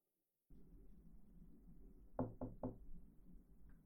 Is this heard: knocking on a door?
yes